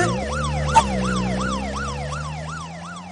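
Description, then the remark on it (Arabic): A police car siren wails in rapid repeating rise-and-fall sweeps, loud, over a steady engine rumble, with a brief sharp click near the start. “الله الله الله، ده في سيارة شرطة، اهرب.”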